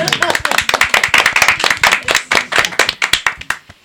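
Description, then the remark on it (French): A burst of hand clapping in applause, quick sharp claps repeating steadily for a few seconds, loud and fairly even before trailing off at the end. “Je voulais applaudir.”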